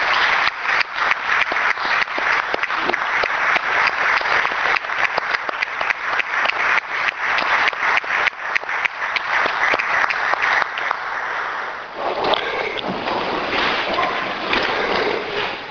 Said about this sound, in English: But I think at this point I would just like to ask all of us to just stand for a moment and applaud the employees who are here tonight as representative of all of those in the city.